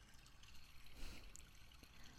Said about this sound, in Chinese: 不就是一条小溪吗？我自己也能趟过去。得先把鞋脱了，不然等过去，裤脚都湿透了。这水好凉